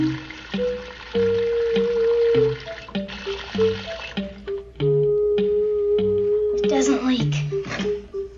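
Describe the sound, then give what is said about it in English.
Water runs steadily from a tap into a flower vase, a continuous pour with a faint ringing tone from the filling vessel, briefly interrupted toward the end. “Water? In the vase? Of course. You've got to put flowers in water.”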